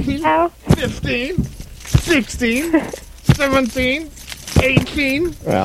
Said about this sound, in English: If I may, I'd like to spank her with my keys. Wow. Just a taste, my good man. All right, okay, where are we? How are you going to spank her with your keys? Well, I'm going to do it like this. Here we go.